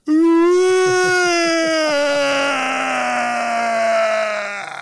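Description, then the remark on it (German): A person vocally imitates the long, groaning scream a camel made when the person sat on it, one sustained loud bellow with a rough, gurgling texture that slowly falls in pitch and lasts nearly five seconds. “Und diesen Schrei, den das Kamel gemacht hat, ne?”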